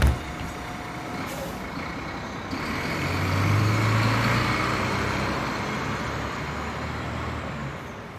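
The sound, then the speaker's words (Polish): A large bus rumbles, its low engine swelling as it pulls in, with a hiss of air brakes and a steady background of street traffic, no one speaking. “Mój autobus jedzie.”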